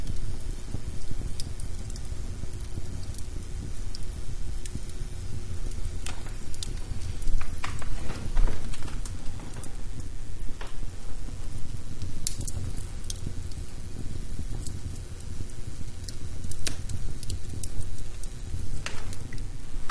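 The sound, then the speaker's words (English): A fireplace fire crackles steadily, with a low roaring rumble underneath and frequent sharp pops and snaps scattered irregularly throughout. No voices are heard. “So I will leave you with the sounds of the fireplace.”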